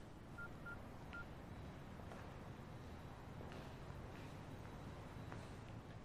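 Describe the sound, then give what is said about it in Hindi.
Three quick telephone keypad tones beep in the first second as a number is dialed, followed by steady low background noise with no voices. “ठीक है जनाब, मैं फोन करके उनसे बात कर लेता हूँ, देखता हूँ वो क्या कहते हैं।”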